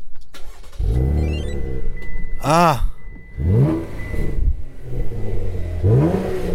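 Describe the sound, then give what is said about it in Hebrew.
A car's V6 engine is started so its sound can be heard: it cranks and fires up, then revs hard several times in quick bursts, each rev rising and falling loudly before settling into a rumbling idle. “ויש כאן כמובן את החוויה של המנוע, של הצליל. אז בואו נניע בשביל לשמוע את הצליל.”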